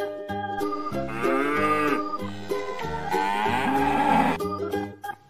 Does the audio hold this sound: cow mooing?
yes